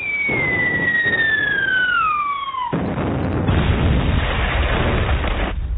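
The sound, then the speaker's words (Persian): A long descending whistle of a shell glides downward for nearly three seconds, then a loud explosion erupts near young girls by a shore, with a broad rumbling roar that lingers before cutting off. No voices. “نزدیکی ساحل بودند که صدای سوت کشداری آمد و بعد انفجار سهمگینی در نزدیکی دختر بچه ها به وقوع پیوست.”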